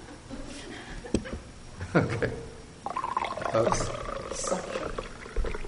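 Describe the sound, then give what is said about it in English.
Tea being poured into a cup, a steady trickling stream whose pitch rises slightly as the cup fills, with a few soft clinks and faint voices in the background. “I don't need infinite space, just enough to pour some of the tea.”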